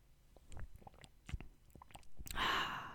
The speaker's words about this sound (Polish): Teraz wezmę jeszcze łyka.